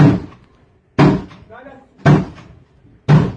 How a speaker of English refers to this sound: Moment, hier ist gerade die Polizei, bricht gerade die Tür auf.